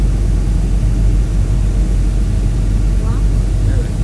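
A steady, loud low-pitched engine drone fills the whole stretch without pause inside an aircraft cabin as the plane prepares to land and has not yet touched down, with a faint brief tone rising near the end.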